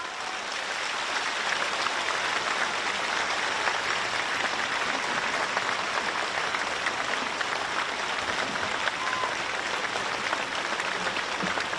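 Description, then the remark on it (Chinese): Sustained, dense applause from a large crowd of monks and Buddhist followers from Malaysia and around the world, welcoming Lu Junhong, a steady roar of many hands clapping at once without pause for the whole stretch, with no voices standing out. “现在让我们用最热烈的掌声恭请尊敬的卢军宏台长。”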